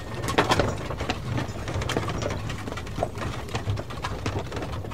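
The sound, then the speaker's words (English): Steady clip-clopping of two horses pulling an open carriage with seats along each side, on a Christmas shopping trip to Lowestoft in the early 20th century, with a low rolling rumble of wheels underneath and a continuous rhythmic clatter at moderate loudness, no voices present. “The break was an open vehicle with two horses with seats along each side facing inwards for late Christmas shopping.”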